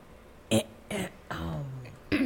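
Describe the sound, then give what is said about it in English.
A series of gravelly throat-clearing bursts, two short harsh rasps followed by a longer rumbling one and a final quick hack, with no talking. “Clear your throat.”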